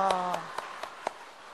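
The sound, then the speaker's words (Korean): A church audience gives a short burst of cheering, a sustained voiced "wah", which fades as about five sharp, evenly spaced claps ring out in a steady rhythm, fairly quiet overall. “우리의 와 하면서 한번 박수하겠습니다.”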